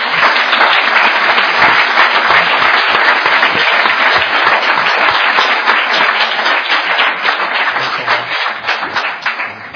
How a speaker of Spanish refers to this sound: Yo sé que todo el honor y toda la gloria es para el Señor, pero un aplauso para nuestro hermano si se merece.